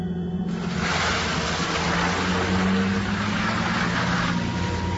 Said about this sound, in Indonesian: Aku melambaikan tanganku sambil melihat mobil ayah yang mulai menjauh pergi.